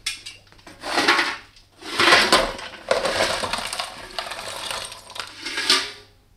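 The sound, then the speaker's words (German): Lumps of coal clatter and scrape as they're tipped into a fireplace on a bitterly cold evening, arriving in four or five rattling bursts with brief pauses between, with no one speaking. “Ich wollte nur noch etwas Kohle für Ihren Kamin bringen.”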